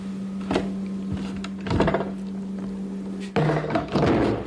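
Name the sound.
door being pushed shut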